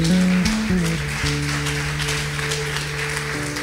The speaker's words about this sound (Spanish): Pónganse de pie, denle un aplauso fuerte a Dios.